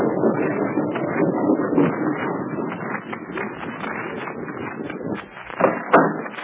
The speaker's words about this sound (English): After a moment, the rocks move away slowly, and a narrow lane is disclosed. The tank rumbles through, followed by the car.